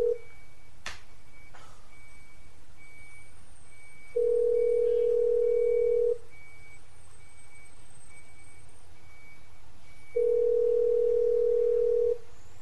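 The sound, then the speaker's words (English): A phone's ringback tone on an outgoing call: a steady, mid-pitched buzzing tone sounds for about two seconds, pauses for roughly four, then rings again. No one speaks; faint line hiss fills the gaps. “No, let's see if we can call her.”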